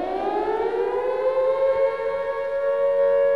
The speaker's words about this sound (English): Air raid sirens fill the air, and there are prayers at grave sites.